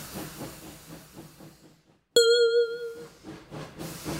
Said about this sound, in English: Here's the train, Mickey.